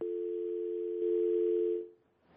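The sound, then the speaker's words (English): A steady telephone dial tone hums continuously for about two seconds after a caller's line drops on a bad phone network, loud and clear with no voices, then cuts off abruptly. “We lost the caller. The network is acting really bad today, but we will still survive.”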